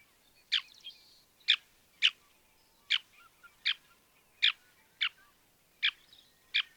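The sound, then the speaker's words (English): A small bird with a black band across its nose and breast and a white forehead gives a steady series of about nine sharp, high-pitched calls, each brief and clear, spaced roughly half a second to a second apart, sounding much like a shorebird. No voices. “And do they have a distinct sound? Well, they sound like a shorebird.”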